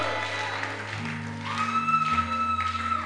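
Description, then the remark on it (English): An audience shouts and cheers together in a loud, continuous roar, with sustained organ-like chords holding steady underneath for the full few seconds. “I like that shout.”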